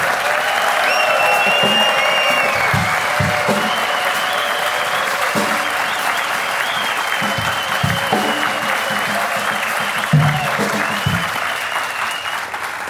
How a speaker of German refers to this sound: Den Applaus für das.